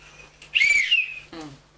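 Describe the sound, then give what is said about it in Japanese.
A toy whistle is blown once, a bright, fairly loud warbling tone lasting under a second, followed by a brief voice. “それ何？ ヒューヒューって。”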